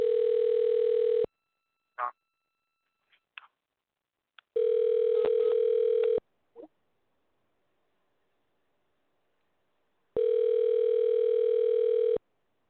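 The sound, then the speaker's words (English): A telephone ringback tone, heard while a call is placed to another number, sounds three times, each a steady, buzzy tone lasting about a second and a half, separated by long silent gaps broken only by a few faint clicks and taps. “The audience can hear it ringing.”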